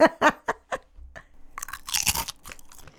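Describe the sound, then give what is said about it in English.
Loud crunching of a ridged French potato crisp flavoured with honey and mustard: four sharp bites in quick rhythm, then a burst of brittle crackling chews that trails off into softer munching. No one speaks. “Give us a crunch. Yeah, go on. I really want crisps or I snapped.”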